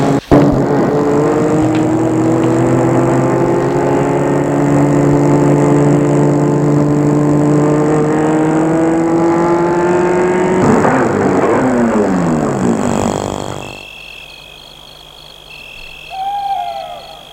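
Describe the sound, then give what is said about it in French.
A car engine hums steadily for several seconds, its pitch shifting as it slows to stop in a small street of small houses in the countryside near Versailles, France, then cuts off abruptly, leaving a quiet, faint outdoor ambience with a brief tonal call near the end. “Et là, il va arrêter la voiture devant dans une petite rue.”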